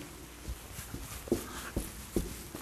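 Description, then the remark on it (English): Several heavy thuds of feet stomping on a floor, spaced irregularly about half a second apart, moderately loud. “Never going to do it. Stomp your feet.”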